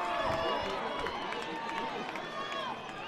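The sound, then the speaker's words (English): A large baseball stadium crowd booing the computer umpire after a pitch, a dense wash of many voices holding at a fairly even level for the whole stretch, with individual drawn-out calls rising above the mass. “Fans booing the computer umpire.”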